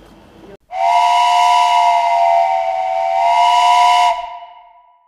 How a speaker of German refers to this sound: So, jetzt kommt der Zug, wir müssen aufhören.